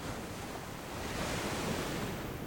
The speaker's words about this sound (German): Und höre das Rauschen der Wellen, wie sie sanft kommen und gehen.